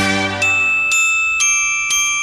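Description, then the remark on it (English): Bells being played ring out in a steady, evenly spaced sequence of four clear strikes, each bright tone sustaining and overlapping the last as it slowly fades. “Boy, I love playing the bells.”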